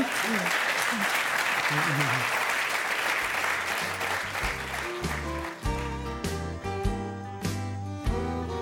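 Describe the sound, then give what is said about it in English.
An audience applauds guests after a true-or-false quiz, a steady, dense burst of clapping that gradually thins out as a musical sting with bright tones and a bass line rises and takes over. “All right, let's give them a round for getting through that.”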